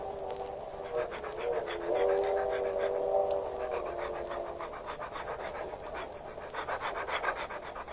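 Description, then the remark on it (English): A dog pants rapidly and steadily as it is led on a leash down the aisle of a train car, with quick rhythmic breaths and a faint whine running through the middle of the stretch. “You were going down the aisle with your dog?”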